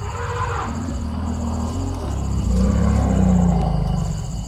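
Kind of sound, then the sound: animal, elephant calling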